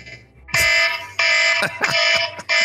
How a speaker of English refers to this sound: Doesn't count. It was after the buzzer.